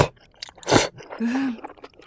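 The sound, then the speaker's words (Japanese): Soft, wet chewing with a few sticky smacks, one louder squelch in the middle, followed by a brief low hum of satisfaction; mouth sounds of eating small-cut spicy tteokbokki rice cakes coated with soft-boiled egg. “絡めて食べると辛みがちょうどいい感じに和むんだよな。”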